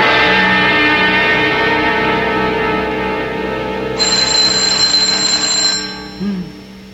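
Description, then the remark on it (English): A telephone rings loudly and continuously at 3 a.m., its bright, sustained tone shifting to a higher pitch partway through before cutting off near the end, with no voices. “Oh, it's 3 a.m. Who can be calling?”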